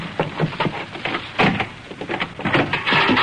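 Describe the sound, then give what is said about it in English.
A locked door in a house is unlocked and opened: a series of metallic clicks and rattles from the lock and latch, then the scrape and knock of the door swinging, with no voices. “There's no need to lock your door in this house”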